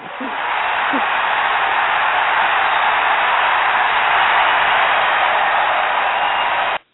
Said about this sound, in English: And the crowd goes wild.